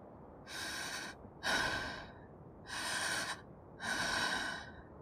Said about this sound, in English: and … is breathing very heavily.